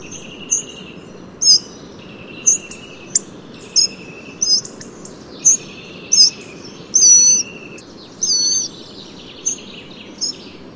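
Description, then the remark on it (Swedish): A hawfinch gives a series of sharp, high clicking calls, roughly one a second, clear, over a steady low rumble of background noise. “Och har du tur, kanske du till och med får höra stenknäcken.”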